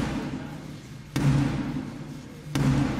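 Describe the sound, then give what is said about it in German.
Two loud, sharp knocks on the wooden door of the House of Commons at Westminster, struck by Black Rod Sarah Clark to announce the Queen's visit, spaced well over a second apart, each a single heavy strike standing out above a low, steady background murmur. “Erstmals seit 650 Jahren klopfte eine Frau, Sarah Clark, als Black Rod an die Tür des Unterhauses, um den Besuch der Queen anzukündigen.”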